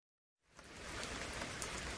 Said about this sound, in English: Oh dear, it's raining again. Look at all that rain.